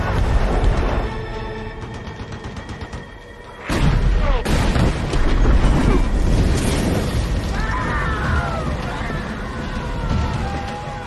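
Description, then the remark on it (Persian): A ship's naval artillery guns fire: a sudden loud blast, a second right after it, then a sustained roar of rumbling chaos with a wailing, siren-like tone rising near the end. “شلیک در زاویه مناسب.”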